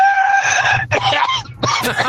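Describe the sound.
A man's voice loudly imitates a rooster crowing, a strained, harmonic cock-a-doodle-doo broken into three bursts with rough, throaty breaks, heard alone.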